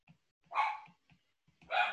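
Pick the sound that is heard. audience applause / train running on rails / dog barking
dog barking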